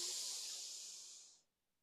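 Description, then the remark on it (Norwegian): A long, deep breath drawn in through the nose, a steady airy hiss lasting over a second before it cuts off into quiet. Fairly clear, with no talking. “Pust godt inn med nesa.”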